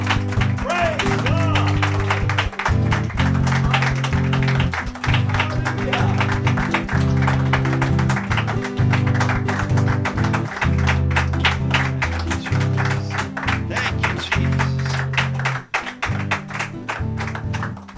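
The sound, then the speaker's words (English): An audience claps steadily and rhythmically in praise of the Lord over loud, sustained music with deep bass tones, the dense clapping continuing without a break for the whole stretch. “If the Lord answer your prayer today, can you give a hand clap for praise?”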